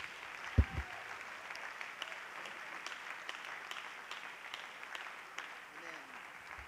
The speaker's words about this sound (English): Clap your hands to the Lord, for he is worthy.